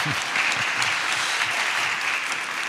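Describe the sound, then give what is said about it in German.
Steady applause from an audience, a dense wash of many hands clapping at an even, fairly loud level throughout, with no voices standing out. “Applaus.”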